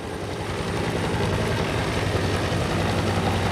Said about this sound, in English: 20 miles from Tixla is Guerrero's state capital, Chilpancingo. Two army helicopter gunships fly low through the city in a driving rainstorm.